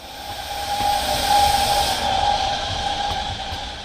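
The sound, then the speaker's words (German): A train pulls into a station on a fine autumn day with a steady hissing rumble and a sustained high brake squeal that rises and fades over a few seconds, loud, with no voices. “Es ist ein schöner Herbsttag. Der Zug haltet im Bahnhof.”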